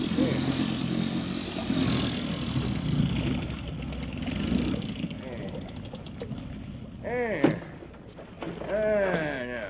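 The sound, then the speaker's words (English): A boat engine rumbles steadily for several seconds as the boat swings around, then is cut off, and a man's voice is heard talking in the quiet that follows. “swing around and cut the engine.”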